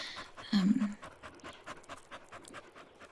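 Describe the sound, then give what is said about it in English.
A dog pants steadily and rhythmically, with a short low whimper near the start, then quick breathy huffs continuing to the end. “I didn't know you guys had a dog.”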